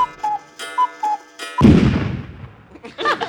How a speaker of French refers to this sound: Pour une sonnerie, c'est une belle sonnerie.